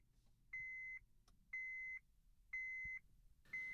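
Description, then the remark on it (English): A car's seatbelt reminder chimes in a steady series of clear, high electronic beeps, about one per second, over a low engine-like rumble; the fourth beep is cut off at the end. “But when you look at it, all it did was light up a tiny little red stick figure and go beep, beep, beep for 3 seconds.”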